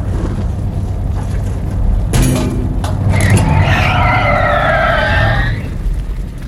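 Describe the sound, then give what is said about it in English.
A car engine rumbles steadily, then tires let out a loud, drawn-out screech lasting a couple of seconds as the vehicle skids to a halt. No one speaks. “I'm gonna stop the car.”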